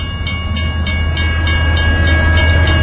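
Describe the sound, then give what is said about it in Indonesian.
A train with several fairly long carriages rolls past with a steady loud rumble, rhythmic clacks repeating roughly every quarter second as the carriages pass over the rail joints. No one speaks. “Tak berapa lama, lewat sebuah kereta dengan beberapa gerbong yang cukup panjang.”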